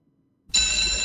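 After a moment of silence, a school bell bursts into a loud, continuous electric ring, a harsh metallic clatter with shrill high overtones that holds steady to the end.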